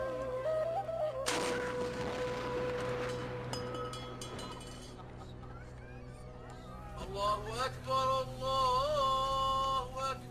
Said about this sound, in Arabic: يلا يا عيال بنسير جدل مدفع، وشلوا تمركم ومايكم عسب تفطرون من يذن. أبويا أخاف من صوت المدفع، عادي أسد ذنية؟